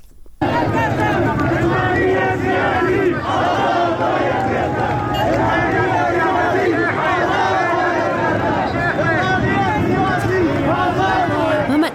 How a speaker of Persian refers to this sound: بعد از نماز جمعه هست، بعد از سخنرانی مولوی عبدالحمید، مثل همه جمعه های پیشین بعد از جمعه خونین زاهدان، مردم توی خیابون اعتراضاتشون ادامه داره. اطراف مسجد از اونجا شروع میشه و کل شهر